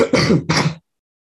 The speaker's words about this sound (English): So coughing break number two. It's okay.